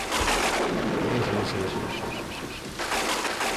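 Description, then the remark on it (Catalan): A steady, loud wash of rumbling noise like a thunder sound effect, sustained for a few seconds with a brief deeper boom near the start and faint chirping tones mixed in. “Home, imagina't que quan anàvem amb el tren, jo sentia el soroll dels llamps malgrat anàvem amb el tren, que silenciós no és.”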